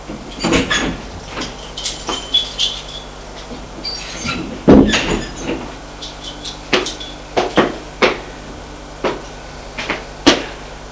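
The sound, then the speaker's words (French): A woman unlocks and opens the door of her second-floor apartment: a quick series of sharp clicks, knocks and latch rattles spread over several seconds, with a faint steady hum underneath and no talking. “Elle va ouvrir la porte de son appartement.”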